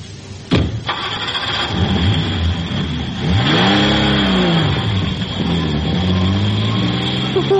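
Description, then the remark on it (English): A car engine cranks and catches with a sharp start, then settles into a loud running roar, revving up and down in repeated swells of rising and falling pitch. “We can do you for stealing the car, driving without a license, dangerous driving the lot.”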